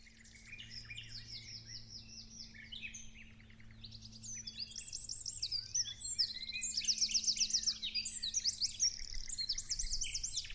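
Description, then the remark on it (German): Several birds sing continuously, overlapping high chirps and warbling trills that grow busier and louder toward the end, with a faint low steady hum underneath and no voices. “Die Vögel sangen ihr Lied dazu.”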